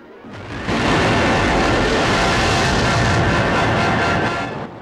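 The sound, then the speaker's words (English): A volcanic blast of fire and ash spouts up out of the sea below a clifftop, with a quick swell into a loud, dense, rumbling roar that holds steady for several seconds before easing off slightly at the end. “Jill and Ben recoil with the blast.”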